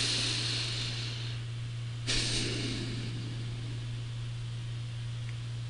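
A computer fan and air conditioning in the speaker's room give off a steady low hum beneath a constant airy hiss, unchanging throughout, broken only by one brief soft burst of noise partway through. No one speaks.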